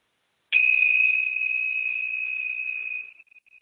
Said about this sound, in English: Let's go ahead and ring the tincture bells.